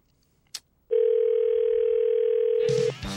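A click, then a single steady telephone ring tone on an outgoing radio-show call to Danny Bonaducci holds for about two seconds, loud, before cutting off as his voicemail greeting begins.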